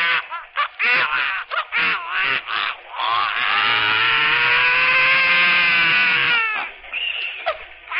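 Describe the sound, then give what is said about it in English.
A solo clarinet cadenza that opens a piece of music: a run of quick, reedy notes, then a long sustained tone that slowly bends and swells before dropping to a few short closing notes. No one speaks. “That's the way the clarinet cadenza I open with goes.”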